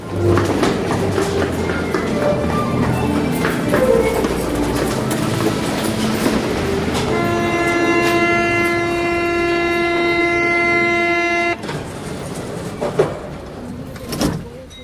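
A metro train rumbles along the rails with a loud, steady roar; midway a sustained tonal whine or horn sounds for several seconds, then cuts off, leaving quieter rumbling and a few clanks.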